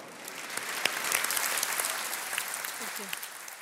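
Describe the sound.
Steady audience applause for an entrepreneur after her presentation, a dense wash of many hands clapping at moderate volume throughout, with a few faint voices calling out briefly near the end.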